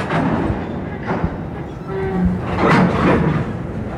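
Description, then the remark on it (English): A freight train builds up steam in the distance beside a railway line in Orizaba, southern Mexico, at 5 o'clock in the afternoon: a steady low roar with hissing swells and faint tonal groans rising and falling over about four seconds of outdoor ambience. “As a freight train builds up steam in the distance, a group of ragged-looking men gather by the track.”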